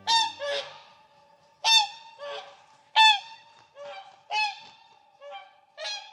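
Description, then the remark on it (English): Whooper swan honking calls ring out in a series of loud, bugle-like blasts, often in pairs, spaced about a second apart, with no talking. “Swans like this Hooper swan are impressive animals.”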